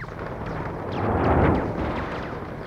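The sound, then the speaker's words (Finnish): Artillery barrage fire, a concentration of fire requested by an artillery fire controller as infantry platoons form up, rolls as a continuous, heavy low rumble of overlapping blasts, swelling in the middle and easing off again, with no voices. “Joukkueet järjestäytyivät ja tykistä tulenjohtaja pyysi keskityksen.”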